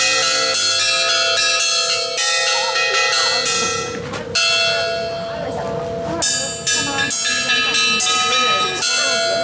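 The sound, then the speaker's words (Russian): A small skete bell rings out repeatedly, its bright metallic strikes overlapping into a sustained shimmering peal, loud, with faint voices murmuring underneath, rung at a church compound that has no classic bell tower yet. “Пока нет на подворье классической колокольни, вот такая скитовская романтика. Можно извлечь звон, а заодно и благословиться.”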